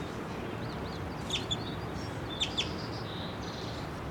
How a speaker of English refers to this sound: He's on the ground right now. I see him chittering. I can see him getting a little closer.